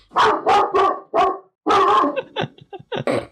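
A pet dog barks loudly in a rapid run of sharp barks, then a longer bark and a few shorter, choppier yaps, with no one talking.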